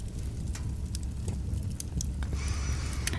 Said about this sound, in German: Komm, wir können uns noch mal kurz ein bisschen Knister-Sounds aus dem Brutzelkamin.